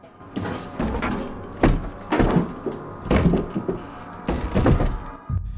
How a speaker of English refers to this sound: A tin can is trembling on the middle shelf. There appears to be a wobbling door, nudging the shelf unit from behind.